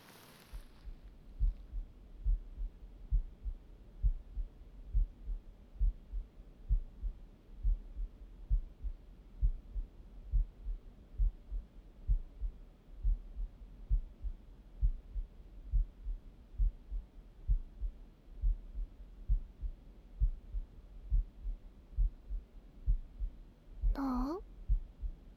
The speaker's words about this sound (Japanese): 私の心音聞こえる？え？ちょっと早いかも？